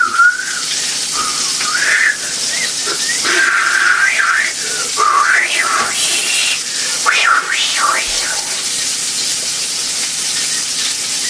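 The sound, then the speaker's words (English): Someone whistles a wandering, melodic tune for several seconds, the pitch rising and falling, over a steady loud hiss like running water or steam in the background. “So please don't worry and just be happy and then whistle and shit.”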